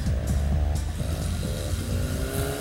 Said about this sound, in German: was will denn der Mann mit dem knatternden Auto von Kalli?